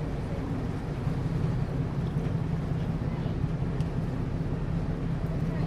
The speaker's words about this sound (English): So, yeah, so the boat's turning now, and okay. I thought it might be. We'll head back upstream.